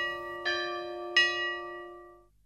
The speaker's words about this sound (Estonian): Kõlanud on saate Signatuur ja Kirikukellad.